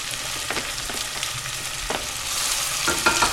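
Half-ring slices of onion sizzle steadily in hot oil in a large, wide pot as they are fried until browned: a dense hissing crackle with occasional sharper pops and stirring scrapes, growing slightly louder toward the end. No one speaks.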